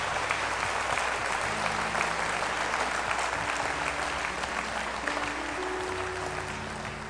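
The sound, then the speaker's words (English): Sustained audience applause at a service for workers as they walk, a dense steady wash of many hands clapping at an even loudness throughout, with faint low tonal hum beneath and no clear talking. “It's good for them to hear you clapping as they're walking.”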